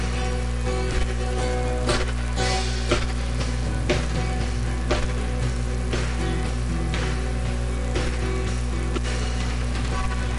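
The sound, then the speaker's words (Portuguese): A crowd claps steadily along with music, the dense patter of many hands forming a constant crackling wash over sustained tones, with occasional sharper claps standing out. “Com alegria, com palmas.”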